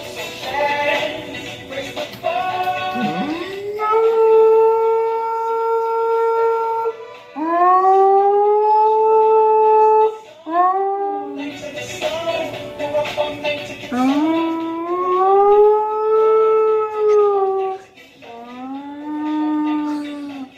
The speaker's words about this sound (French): on trouve des vidéos d'animaux et bien sûr, des chiens qui chantent. Cadeau au Mike, un berger blanc suisse.